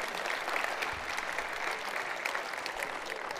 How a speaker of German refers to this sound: Also, du hast einen mächtigen Applaus verdient.